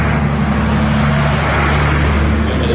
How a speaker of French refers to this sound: Il y a l'énorme camion.